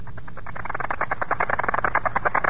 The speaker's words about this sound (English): To be honest with you, I have no clue, but it's the LORAN communication system, LORAN beacon or something. The United States, one of the entities of the armed forces has this. This is the sound that their beacons produce.